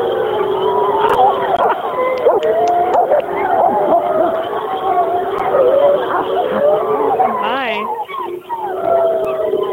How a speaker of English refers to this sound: So, all right, I'm going to go over here by my favorite pack, and I'm going to just give us a howl. So. Okay. All right, here we go. Wait, this is a wolf.